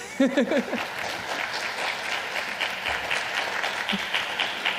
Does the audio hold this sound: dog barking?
no